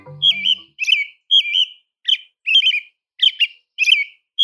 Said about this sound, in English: During the day, an American robin sings a lovely, familiar song of rich phrases. The phrases vary and ring forth with a lilting quality. But as the sun begins to set, robin's song takes on a new and exquisitely different character.